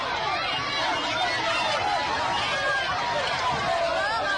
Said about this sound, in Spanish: Y en Venezuela crecen las protestas contra Maduro. Durante una visita a Isla Margarita ha sido increpado por manifestantes y ha tenido que salir corriendo junto a sus escoltas. Este era el momento.